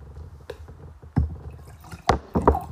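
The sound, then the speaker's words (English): Water from Rite Aid is poured into a cup in short splashy bursts, with a few sharp liquid plops and gurgles over a low background rumble. “Come on, pour some.”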